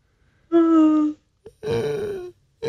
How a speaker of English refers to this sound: I'm sorry. I yawned. I did. Oh, that was just a yawn.